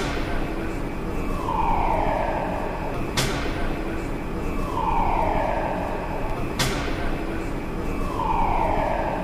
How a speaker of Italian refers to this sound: Il segnale di allarme avverte che ci sono lavori in corso nel cantiere di Atlas, uno degli esperimenti costruiti per LHC.